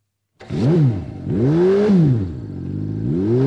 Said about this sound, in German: Ein dröhnender Motor war in Jean Tinguelys Ohren Musik.